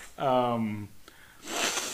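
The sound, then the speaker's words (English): A short voiced, nasal hum lasts under a second, then after a brief pause comes a loud, breathy, hissing inhale like a long sniff. No words are spoken. “So we're just sniffing those ads.”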